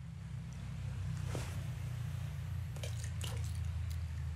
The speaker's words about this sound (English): if I throw coins into the body of water below